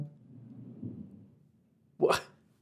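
A low, muffled rumble of chairs dragging across a hardwood floor upstairs, then a brief, loud scraping squeak as a chair is pushed, fading away quickly. No one speaks.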